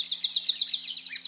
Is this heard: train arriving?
no